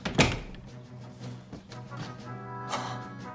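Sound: door closing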